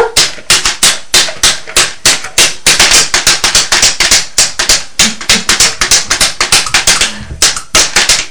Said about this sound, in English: Oh. I think that's enough hammering